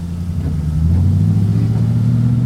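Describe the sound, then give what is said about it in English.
A large limousine engine rumbles steadily, its low hum rising slightly as the vehicle moves along and slides into a parking space in front of a main building, with no voices present. “the limo bearing Brognola slid into the first slot”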